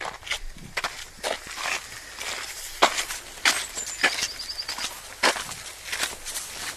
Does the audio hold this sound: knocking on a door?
no